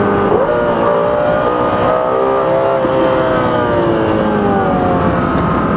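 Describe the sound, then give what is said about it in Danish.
A race car engine roars loud and steady, its high, stacked harmonic whine climbing and wavering as it accelerates hard for several seconds, its rear wheels spinning at 150 km/h, with no voices. “De baghjul der, de vil spinde med 150 km i timen, det garanterer jeg for.”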